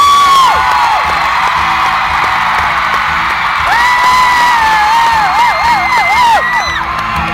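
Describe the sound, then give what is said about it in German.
A loud concert crowd at a show on a band's new tour cheers and applauds continuously, a dense wash of clapping and roaring voices with high whoops and shrill whistles rising above it throughout. “Ihr gebt uns so viel Applaus.”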